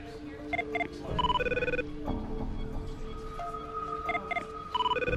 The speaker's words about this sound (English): stares ahead, oblivious to her ringing phone.